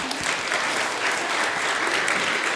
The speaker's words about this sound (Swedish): Så att stå kvar, men ni ska ändå redan nu få en liten applåd tycker jag.